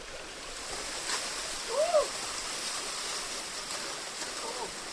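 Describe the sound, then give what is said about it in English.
A steady, continuous rush of Dark Hollow Falls and its flowing stream in the woods at about 9 a.m. fills the background at moderate level, with a single brief bird chirp rising over the water partway through. “Birds, waterfalls, streams, scurrying squirrels, sure.”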